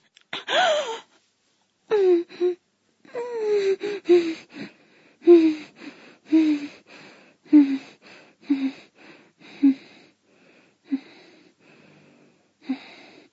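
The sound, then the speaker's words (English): A breathy run of sharp gasps and voiced inhalations, drawn in rapidly with the mouth opening wider, about a dozen in uneven rhythm, loud at first and gradually tapering into shorter, fainter catches of breath, with no words spoken. “I manage to gasp without laying my teeth on you at all. Thank goodness. I tended to draw a breath in.”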